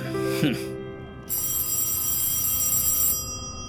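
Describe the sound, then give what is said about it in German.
A telephone bell rings in a sustained, bright metallic burst lasting about two seconds, loud, after a brief voice sound at the start and over a low background murmur. “Mami, Daddy, das Telefon klingelt.”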